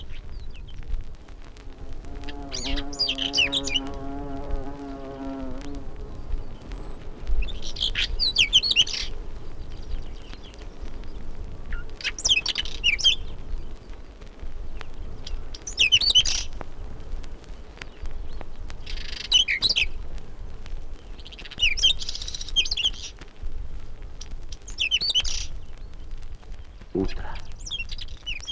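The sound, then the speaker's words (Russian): A dark-brown whinchat sings from the top of a thistle, short, scratchy warbled phrases repeated every few seconds at a steady pace, over a low outdoor rumble with a brief humming tone near the start. “А на макушке чертополоха запевает темно-бурая птичка. Полевой чекан.”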